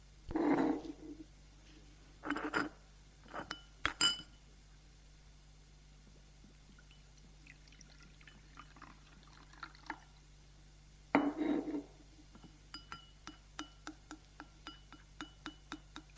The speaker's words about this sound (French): Il prend la cafetière et verse le café dans un grand bol blanc.